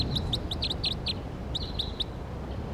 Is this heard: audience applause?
no